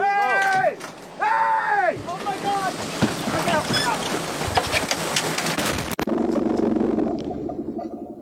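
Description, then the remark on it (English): Panicked shouts and screams rise over a boat engine as a much bigger yacht runs straight into a small fishing boat, then a loud, chaotic crash of splintering impact and churning water, followed by a steady engine roar. “The boat keeps coming directly toward them, doesn't veer, doesn't move, just runs smack into these poor people in the fishing boat.”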